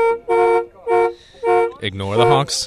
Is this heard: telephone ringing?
no